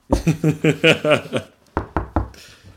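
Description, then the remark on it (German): A quick run of about seven resonant knocks on a door, then a brief pause and three sharper, evenly spaced knocks, heard on their own with no talking. “Auf Ärsche klopfen. Klopfen?”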